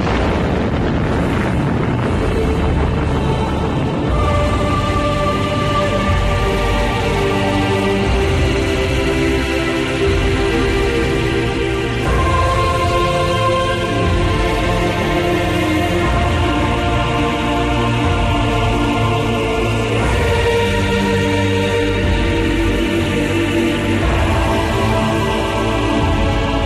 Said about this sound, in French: Ici la Défense nationale, voici en toute première mondiale, puisque c'est le document original que nous vous faisons entendre, le bruit de l'explosion de la première bombe atomique française.